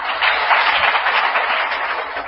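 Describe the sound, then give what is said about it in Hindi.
A large crowd applauds steadily for a couple of seconds, a dense, even wash of many hands clapping together at a fairly loud level, with no one speaking over it. “तालियां तो बजा दी लेकिन साक्षात्कार नहीं किया तुमने, ये तो सुनने का पुण्य मिला और मजा मिला।”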